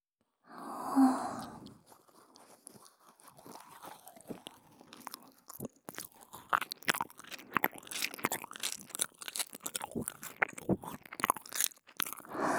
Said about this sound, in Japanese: 反対側の乳首さんももぐもぐしてあげるね。